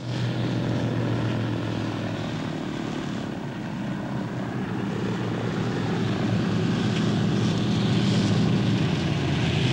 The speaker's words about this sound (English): The plane touches down and slides smoothly across the snow on its skis.